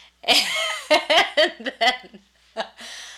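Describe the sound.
A sneeze, a sharp breathy burst near the end, follows a short run of voiced, choppy vocal sounds from someone. It is fairly loud and heard once.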